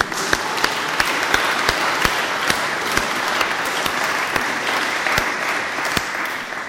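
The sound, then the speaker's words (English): An audience gives a round of applause in thanks, a dense wash of many hands clapping with a few sharper individual claps standing out, holding at a fairly loud, even level throughout without any talking. “they richly deserve a round of applause.”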